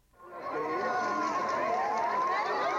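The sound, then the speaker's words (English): A large crowd of Kuwaitis in Kuwait City cheers and screams as the first buses carrying released Kuwaiti former prisoners of war roll into the city, a loud, continuous roar of many overlapping voices, swelling up quickly at the start and holding steady throughout. “A huge crowd of Kuwaitis greeted the first buses as they rolled into the city.”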